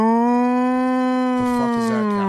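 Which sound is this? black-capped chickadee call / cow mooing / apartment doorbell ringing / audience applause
cow mooing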